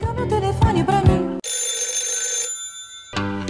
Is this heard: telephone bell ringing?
yes